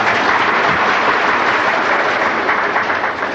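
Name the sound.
audience clapping applause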